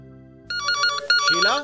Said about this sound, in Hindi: जरा देखना तो किसका फोन है। हाँ जी, उठाती हूँ। किसका फोन होगा?